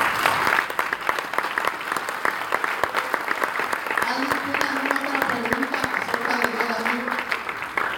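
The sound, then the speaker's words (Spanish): A crowd claps steadily for several seconds, a dense, even patter of many hands. Partway through, voices rise faintly beneath the applause. “Un aplauso.”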